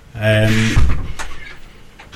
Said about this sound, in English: Sorry, one man can make such a noise walking into a door, walking through a door,